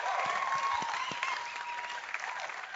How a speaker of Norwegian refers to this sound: Jeg må bare si, jeg bare så imponert av disse her bandgutta bak meg. Kanskje dere gir en stor applaus?